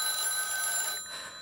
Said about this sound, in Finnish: Puhelin? Ei vastata. Ei tietenkään. Soittaa todella sinnikkäästi, vaikka kello on jo 4.